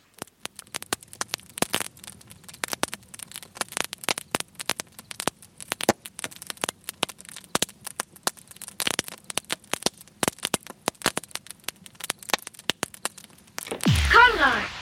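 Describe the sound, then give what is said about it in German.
Wood crackles and pops in a campfire after grilling, sharp snaps landing at an irregular pace over a low steady hiss, until a voice starts up at the very end. “Nachdem wir gegrillt haben, sitzen wir am Lagerfeuer. Genau. Und hören dem Holz beim Knistern zu.”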